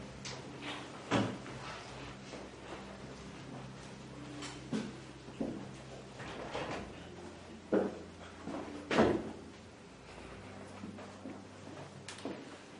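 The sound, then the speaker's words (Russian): A door is being closed: a series of scattered knocks, clicks and thuds over several seconds, with a steady low hum and no one speaking. “Закройте дверь, пожалуйста.”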